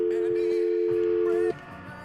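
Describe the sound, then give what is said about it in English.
A steady, loud telephone dial tone hums at a single low-mid pitch for about a second and a half, then cuts off abruptly, leaving faint background noise. “That's just a dial tone.”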